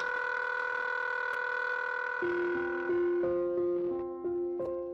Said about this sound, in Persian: هر بار کسی سکه‌ای رو درونش مینداخت، بوق آزاد و رها می‌کرد توی فضای ساکت کوچه و خیابون.